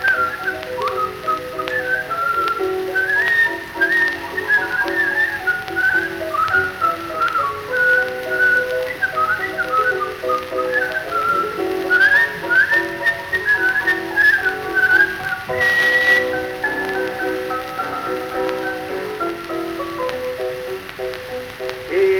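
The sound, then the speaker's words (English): A man whistles a lively, wavering melody for the whole stretch, steady, with a faint crackly hiss underneath like an old recording. “And this is his whistling special.”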